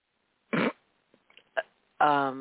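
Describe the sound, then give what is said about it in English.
Fart sound effects, loud: a short sputtering burst, a few faint clicks, a quick pop, then a longer buzzing, tonal blast at the end. No one talks. “But anyway, to lighten it up just a little bit, a good fart joke, man, goes a long way.”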